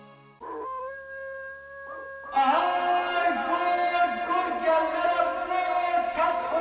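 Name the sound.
wolf howling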